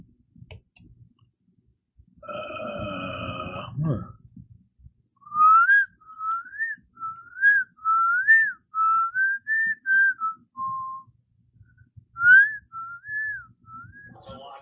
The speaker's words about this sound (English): Heard birds whistling. Who's whistling?